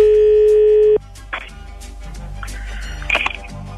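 A telephone call is placed: a single loud, steady ringing tone sounds for about a second and then cuts off, followed by a faint line hiss and a few soft clicks.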